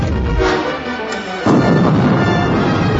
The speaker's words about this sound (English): The violent shockwave of the detonator's explosion back aboard Slave One tumbled Bossk and Zuckuss inside the pod as it shot away from the ship.